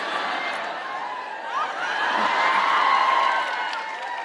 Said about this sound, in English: You're applauding a little too loudly for that.